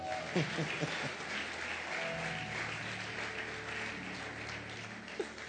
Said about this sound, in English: Clap hands for Jesus.